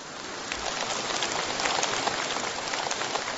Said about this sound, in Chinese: 鼓掌鼓得很热烈，好像你们都很开悟一样。